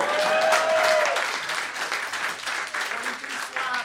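A crowd applauds steadily, dense overlapping claps filling the whole stretch, with a brief tonal whistle or cheer near the start and faint voices mixed in.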